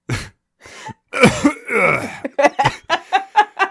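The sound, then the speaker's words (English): A person voices an imitation of a deer's cough: a few harsh, raspy bursts, then a quick run of short, rhythmic barking coughs, fairly loud with no other sounds. “And the occasional cough of a deer.”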